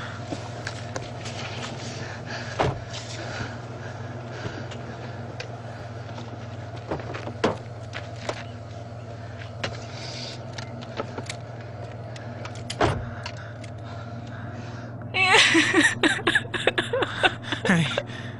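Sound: car stopping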